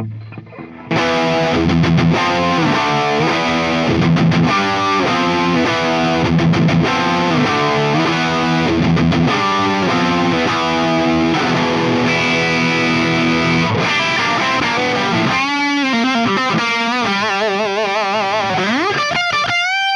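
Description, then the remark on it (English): A loud, distorted Gibson Les Paul Sunburst electric guitar (WCR, American Steel) played through an amp, chugging chords and sustained notes for about twenty seconds, ending with wavering vibrato bends and a rising slide. No voices. “Gibson Les Paul Sunburst, WCR, American Steel.”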